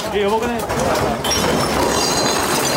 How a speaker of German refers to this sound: In einer Bar rutschen die Gläser und Getränke von der Theke. Alle merken es sofort, das Beben ist stärker als alle anderen in den vergangenen Monaten und Jahren.